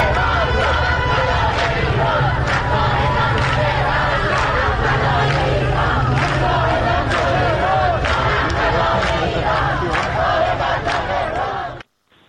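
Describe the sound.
A crowd of women gathered in front of the train platform at Enghelab metro station chants the protest slogan "Woman, Life, Freedom" together, loud and continuous, their voices echoing over a dense background of crowd noise until the sound cuts off abruptly at the end.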